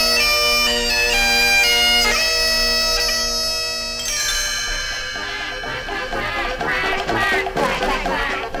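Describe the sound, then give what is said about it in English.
A flock of geese in Belgium honk loudly and repeatedly in a busy, overlapping chorus, their nasal calls blending with a bright musical accompaniment that carries on steadily throughout. “A flock of geese joined in the melody in Belgium.”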